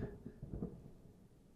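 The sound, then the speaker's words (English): A faint, low rumble of distant thunder from outside, with lightning, rolls for a moment and then fades, muffled, with no one speaking. “heard that, but there was lightning outside, so.”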